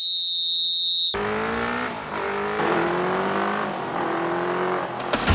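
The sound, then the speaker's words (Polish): Loud, harsh speedway motorcycle engines roar and rev together, their pitch rising and falling continuously, following a brief high electronic tone at the start. “Żużlowe silniki usłyszymy chociażby dzisiaj w Lesznie.”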